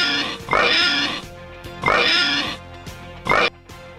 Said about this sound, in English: give us the oinks.